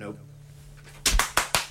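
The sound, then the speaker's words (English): Four sharp, loud hand claps ring out in quick succession after a second of low, quiet hum, with slightly uneven spacing between each crisp smack. “Is it weird if I clap?”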